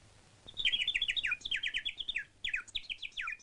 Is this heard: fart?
no